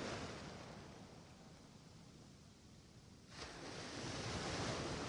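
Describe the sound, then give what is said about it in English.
Ocean surf rushes steadily onto the shore in a continuous hiss, easing slightly before a fresh wave surges in and the wash grows louder and fuller. No voices are heard. “Allow the relaxation of the waves to wash over the rest of your entire body now.”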